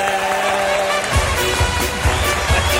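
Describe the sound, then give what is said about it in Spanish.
An audience on the show Las mañanas Kiss applauds Joaquín of Betis in a steady, dense wash of clapping while a low, regular thumping beat pulses underneath, starting after a brief stretch of sustained tones. “Os voy a pedir un aplauso para Joaquín del Betis.”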